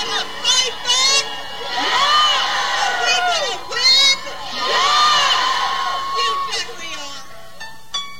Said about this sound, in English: Their opposition to the Silent No More Awareness event drew shouts of protest.